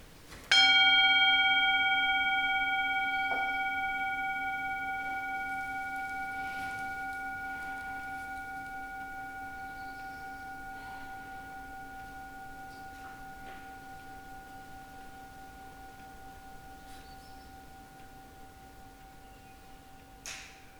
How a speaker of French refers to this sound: Et je vais faire le coup de gong qui clôture notre session de ce soir.